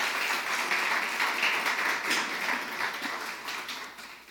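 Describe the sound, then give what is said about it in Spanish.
An audience applauding the Lord, a dense, steady wash of many hands clapping together that holds strong for several seconds before gradually thinning and fading toward the end. “¿Qué tal si levantamos al Señor otro aplauso bien grande?”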